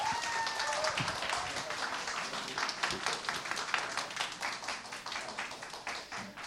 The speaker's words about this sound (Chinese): 好，拍手欢迎吴老师来，感谢主。